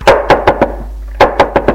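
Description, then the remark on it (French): A woman knocks on the attic door: two quick bursts of knocking, four sharp raps each with a short pause between the sets, loud and hollow with no voices. “Elle frappe à la porte.”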